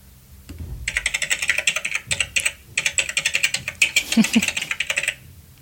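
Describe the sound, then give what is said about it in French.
Rapid clicking of keys on a computer keyboard, fairly loud, in quick uneven bursts with a couple of brief pauses, no talking over it. “Ça, c'est, pour moi, c'est un clavier.”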